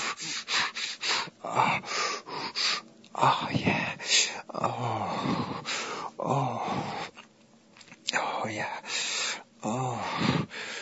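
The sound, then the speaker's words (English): Heavy, uneven breathing with sharp gasps and breathy moans that shift in rhythm and intensity, interrupted by a brief quiet pause. “Here your breathing change.”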